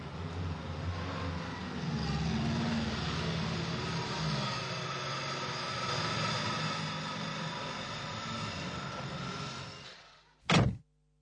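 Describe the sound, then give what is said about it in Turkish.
A minibus engine idles with a steady low rumble and hum for several seconds, then fades before a single sharp, loud thunk of the minibus door shutting. “Minibüsümüz bu mu? Rengi ne güzel.”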